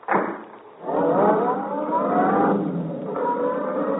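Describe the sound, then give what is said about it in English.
A roadster car engine starts up and revs, its droning pitch rising as it accelerates and pulls away, loud, then settles into a steady hum as it drives off down a street. “Come on, get in the car.”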